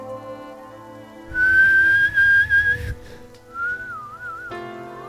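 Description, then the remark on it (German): A loud whistle holds one steady high note for about a second and a half, then after a short pause a softer, wavering whistled note follows, over a quiet tonal background. “Ich whistle mal ganz laut.”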